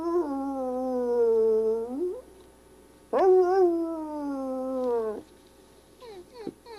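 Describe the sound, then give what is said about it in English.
Two long, drawn-out dog howls, each holding a steady pitch and bending upward at the end, separated by a short pause and followed by faint clicking. “Sometimes he howls too.”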